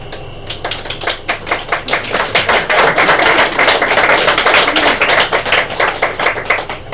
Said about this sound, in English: Some people say don't clap in between each poem, but I say clap on. Anytime you feel like.